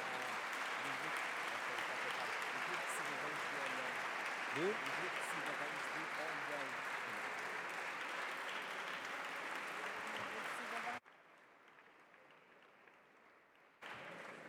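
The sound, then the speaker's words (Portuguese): Sustained applause from a large crowd in the Portuguese parliament, welcoming visiting groups of citizens in the galleries, steady and dense for about eleven seconds before dropping off abruptly, with a brief resurgence at the very end. “E estes aplausos são também para o grupo de cidadãos de Olhão e para o grupo de cidadãos da Trofa, que também estão presentes.”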